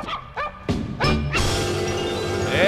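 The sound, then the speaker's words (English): Pitched dog barks yap out a quick tune, five sharp barks in a row, then a full, loud musical jingle swells in and carries on to the end. This is the singing dogs jingle of the Doggone Bulletin Board on K1 1400 KWON radio in Bartlesville. “Boy, I tell you what, you know when the puppies are coming, you got the singing dogs.”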